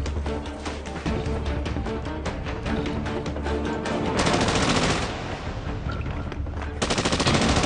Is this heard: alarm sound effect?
no